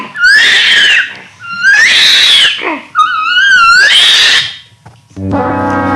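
An orangutan gives three loud, shrill calls, each a harsh screech that swoops upward in pitch, separated by brief pauses, followed by a short steady buzzing tone at the end.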